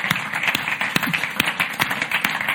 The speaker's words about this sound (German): Geben wir am Herrn mal einen Applaus heute Morgen. Ist doch der Hammer.